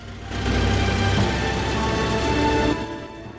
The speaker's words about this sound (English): Delighted to be left solo, Hannibal taxis the plane back onto the runway.